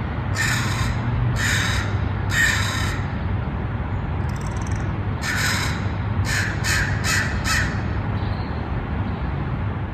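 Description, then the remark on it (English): Crows cawing in a series of harsh calls, three spaced caws followed by a quicker run of several more, over a steady low background hum of city noise in downtown San Francisco, California, United States, in the morning. “And I get to listen to crows almost every morning, along with my cat, Dusty Jr., looking out my window onto the city skyline”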